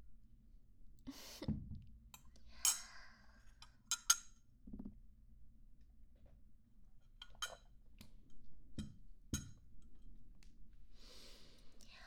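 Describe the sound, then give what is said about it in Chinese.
Drinking glasses clink together softly a few times in a toast, with light rustling and faint breathing in between; no one speaks. “干杯！”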